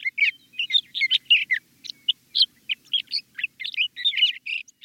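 A male sage thrasher sings a long, rapid, warbling song of tumbling phrases, proclaiming his territory in spring from sagebrush in the American West. The song is clear and continues without pause over a quiet background with no voices.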